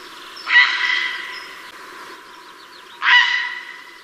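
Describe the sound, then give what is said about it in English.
A raspy waterbird call, a harsh single 'frank'-like squawk, rings out loudly twice about two and a half seconds apart, each fading quickly over a faint, steady low background. “raspy call, and if you have a pond in your garden or a small lake nearby, you might hear them. But it sounds like they're shouting Frank”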